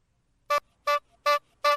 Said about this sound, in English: No, honk that horn.